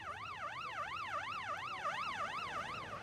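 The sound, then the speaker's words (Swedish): An ambulance siren wails in quick, steady rising-and-falling sweeps, about two cycles per second, loud and continuous over a low rumbling background with no voices. The ambulance is heading from central Stockholm to Sabbatsberg Hospital with an injured man on the night of Friday 28 February, in raw air at 7 degrees with a light wind. “Polisen är på plats och ambulansen har åkt mot Sabbatsbergs sjukhus med den skadade mannen.”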